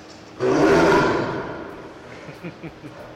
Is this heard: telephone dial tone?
no